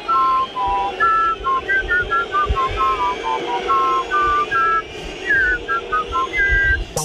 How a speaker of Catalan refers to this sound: Amb l'excusa que no té lletra, la Casa Reial ja ha encarregat crear un nou himne a una interpretació xiulada. D'aquesta manera, semblarà que els que el xiulen també el cantin. Escoltem una versió del nou himne que s'està gestant.